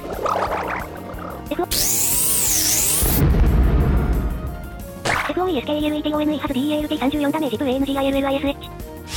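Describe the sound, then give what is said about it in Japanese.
A loud video game explosion: a bright, sweeping electronic rush gives way to a deep, rumbling boom that fades out, followed by bleeping tonal game sounds. “なんか爆発したけど今。”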